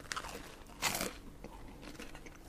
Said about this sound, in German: Es knuspert ja hier.